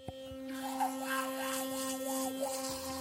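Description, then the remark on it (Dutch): A Philips Sonicare sonic electric toothbrush buzzes steadily with a high, even hum, its pitch wavering slightly as it brushes, with a soft scrubbing texture and no talking. “Zo klinkt tandenpoetsen zoals je gewend bent, maar dan tot 20 keer effectiever.”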